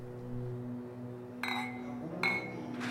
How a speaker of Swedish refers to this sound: Bertil Ove höjer sina glas och skålar med kvinnorna.